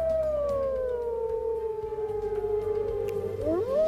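Wolves howl in a long, drawn-out chorus, one sustained, slowly falling wail with fainter overlapping voices, ending in a rising howl near the close. No one speaks.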